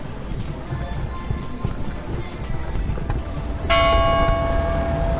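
Church bells ring out over a busy outdoor market in Aschersleben, with a loud, bright strike near the end whose tones linger and hum over steady street noise and faint background voices.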